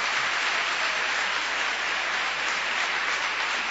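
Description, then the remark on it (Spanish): A crowd applauds steadily, a dense wash of many hands clapping at an even, sustained level for several seconds with no voices standing out, applauding the candidate for mayor of Guareña. “Un aplauso para el próximo alcalde de Guareña.”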